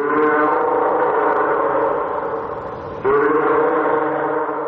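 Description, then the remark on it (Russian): A sea lion gives two long, loud bellowing calls, a rough harmonic bleat that sags and then restarts abruptly, with no voices present. “Морской котик.”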